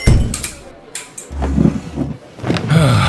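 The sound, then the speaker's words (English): A door is pushed open and swung shut, with scraping and clunking handling noises and a low rumble, over about three seconds. “You know, I could have just held the door for you.”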